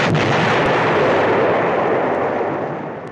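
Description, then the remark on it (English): A loud, booming explosion with a long rumbling roar that fills the whole clip and slowly fades toward the end, with no voices. “Hot Dave, cue explosion sound effect.”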